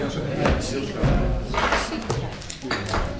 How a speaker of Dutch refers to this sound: zou u de deur dicht willen doen?